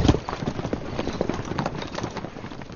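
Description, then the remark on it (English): A horse ridden at a full gallop, its hooves pounding out a rapid, steady drumming of heavy thuds that carries on without pause, with no voices over it. “Ryan kicked his mount into a full gallop.”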